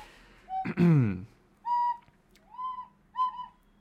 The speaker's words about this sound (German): Okay, hör bitte auf zu pfeifen.